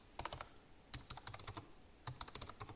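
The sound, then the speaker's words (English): Quick typing on a computer keyboard as a person types a post on Twitter, keys clicking in short uneven bursts with brief pauses between them, no voices present. “I'm actually typing this up.”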